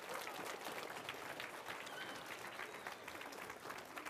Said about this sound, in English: All right, give everybody a round of applause for that. Y'all did really good, okay.